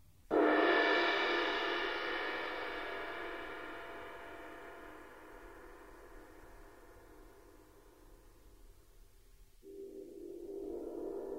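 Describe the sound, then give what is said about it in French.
A single cymbal held up in the air is struck once with a felt mallet to make it vibrate, giving a soft-edged shimmering ring that fades slowly over several seconds before a second, quieter stroke begins near the end. “Ou n'en prendre qu'une qu'on tient en l'air pour la faire vibrer à l'aide d'une baguette feutrée.”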